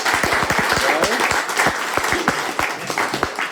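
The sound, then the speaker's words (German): A crowd breaks into steady applause for a contestant, dense overlapping claps at a loud, even level for a few seconds, with no talking over it. “So, und ein Applaus für unseren tapferen Kandidaten.”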